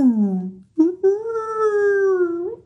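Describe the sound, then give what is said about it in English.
A voice imitates a high-pitched whale call: a tone that slides downward, breaks briefly, then holds a long, slightly wavering note before rising at the end. “But like whales don't make low pitched noises. They do, but they also go like.”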